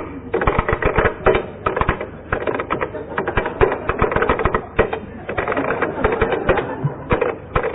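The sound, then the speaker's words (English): Fast, uneven clatter of keys being struck on a keyboard as someone types out text from a novel, a steady stream of sharp taps for several seconds with no talking. “tap out something for you to identify on a different keyboard.”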